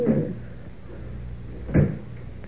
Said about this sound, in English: There we are. Door's locked and I've got the key.